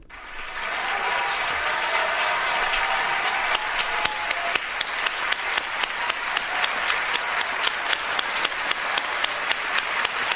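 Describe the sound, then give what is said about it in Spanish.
Loud, sustained standing ovation from a large crowd for seven award winners, a dense wash of many hands clapping that rises quickly and holds steady, with sharper individual claps standing out toward the end. “Los siete premiados fueron los más ovacionados de pie, y porque se retiraron, si no la gente hubiera seguido aplaudiendo.”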